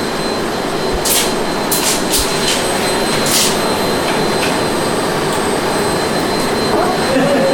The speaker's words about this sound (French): Bon, ils vont enregistrer le bruit d'aspirateur, madame. Vous pouvez laisser allumer. Ah oui. Oui, on est intéressé au bruit.